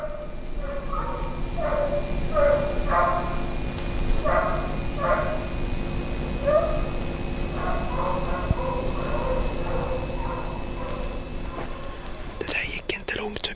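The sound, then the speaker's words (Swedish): Hunting hounds bay as they chase a fox during a fox hunt and draw nearer, a steady, rapid series of yelping calls over a constant outdoor hiss, ending with a brief rustle of handling noise. “Att höra hundarna driva ordentligt om man vet att det närmar sig.”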